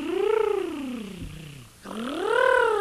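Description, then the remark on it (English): A voiced rolled-R tongue trill buzzes steadily, sliding down in pitch, breaking off briefly, then sweeping back up and down again. It is fairly loud, alone, with no speech. “If you can't buzz your lips, then you can buzz your tongue, as in trilling an R.”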